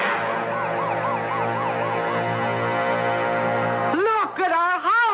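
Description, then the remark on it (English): Fire engine sirens wail over a low engine rumble, one cycling steadily up and down before a second, louder siren sweeps in near the end as the trucks pass by, turning the corner and heading down the block to a house on fire. “We better get over to the curb fire engines.”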